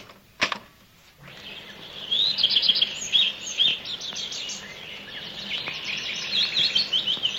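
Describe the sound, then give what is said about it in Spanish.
Recorded birdsong of many birds played from a CD: several birds chirp and trill in dense, overlapping bursts of high, rapid calls over a steady hiss, after a brief sharp click at the start. No one speaks. “Yo tengo un CD. CD. Sí, digo, pues. Con el canto de muchos pájaros.”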